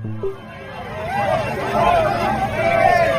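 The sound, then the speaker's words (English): A dense outdoor crowd, many of them young people, at 8th and Ocean murmurs and chatters continuously, many overlapping voices blending into a steady, fairly loud hubbub that swells slightly over a few seconds. “We're standing right on 8th and Ocean, and take a look at these crowds. And there's also that concern with all of these huge crowds.”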